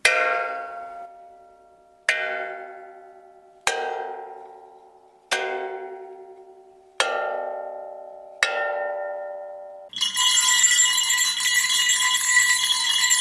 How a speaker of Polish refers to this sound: Cztery miejsca, przypomnijmy, a dzwonków jest tak dużo, że właściwie można się pogubić w tym wszystkim.